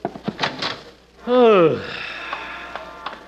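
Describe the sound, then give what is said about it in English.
A door creaks open with one loud, drawn-out squeal that slides downward in pitch. Brief voices come just before it, and faint rustling follows. “Open the door for me.”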